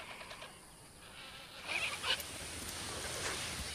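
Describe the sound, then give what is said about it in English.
Angry vultures squabbling at a carcass, stretching out their necks and bashing into one another, give off harsh, breathy hisses that swell into a rasping burst midway, over a steady outdoor background. The group sounds fairly quiet, with no talking. “Now you can see when they really are getting very angry, they stretch out their necks and they just make that horrible hissing roar.”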